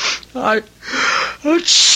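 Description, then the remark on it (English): A loud sneeze: a voiced, drawn-in 'ah' build-up breaking into a sharp, breathy burst, followed by a second wind-up and another forceful exhale. “God bless you.”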